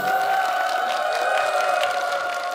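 An audience applauds steadily to call up a singer's next stage performance, a dense patter of many hands clapping at an even loudness throughout, with a sustained hum of tones underneath and no one speaking.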